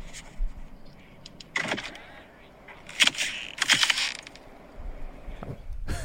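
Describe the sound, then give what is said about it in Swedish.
Fold-out car door handles crack through a crust of ice as the door is opened, in a few sharp, crunchy bursts, with brittle high snapping and crackling spread irregularly across several seconds over a low background rumble. “Det är handtagen på bilen som knäcker igenom isen för att Är det när du ska öppna dörren?”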